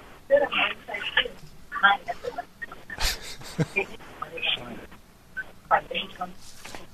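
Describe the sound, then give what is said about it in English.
Short electronic keypad beeps of a telephone being dialed, spaced irregularly over a narrow, phone-line quality background with muffled voices and a sharp click midway. “If she comes back on, I'll play the dial tone.”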